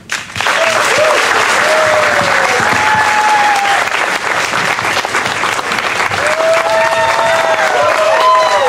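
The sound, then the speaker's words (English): A loud, sustained wash of applause and cheering from a big crowd of fans as everyone stands on the stage, with whistles and shouts rising above the steady clapping throughout. “As you can hear, the crowd begins to go wild.”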